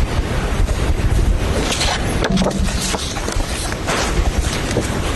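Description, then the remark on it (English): Continuous papery rustling and shuffling, with a few sharper crinkles rising out of a steady, fairly loud hiss, as the judge reviews the jury's verdict documents in the courtroom at the Murdaugh trial. No one speaks. “Can you hear the shuffling of the paper?”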